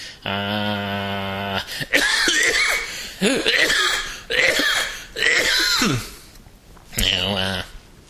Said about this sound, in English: I don't know if you noticed, I just coughed. I could probably edit that out if I was so inclined. But I can't edit it out now because I mentioned it.